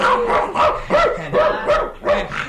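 A dog named Tamerlan barks repeatedly in a quick, steady series of loud barks, about six or seven in a few seconds, with no one talking.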